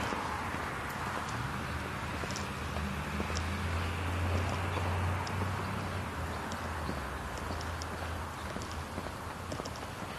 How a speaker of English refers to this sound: There, the birds chirping.